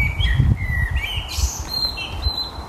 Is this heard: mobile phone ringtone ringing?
no